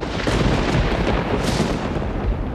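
A loud thunderclap from a lightning strike, a dense rumbling roar that fills the whole moment with a sharper crackling burst partway through, and no voices.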